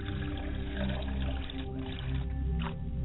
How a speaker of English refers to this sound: I pour water for my mother's side of the family and set a glass before her side of the family. I pour a glass of water for my father's side and set a glass representing my father's side of the family.